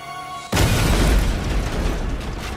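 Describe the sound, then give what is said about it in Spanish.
A faint low hum is abruptly cut by a loud bomb blast from a mailed package bomb opened by advertising executive Thomas Moser at his home north of Caldwell, erupting into a dense, roaring rumble and debris-like crackle, slowly easing but still heavy at the end. “La explosión fue la más espantosa hasta entonces.”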